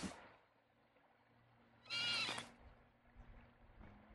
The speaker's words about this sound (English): You're more likely to hear them than see them, and they actually make a strange squealing sound, a bit like a squealing pig. So you're often more likely to hear them than see them, definitely. There's no mistaking that squeal.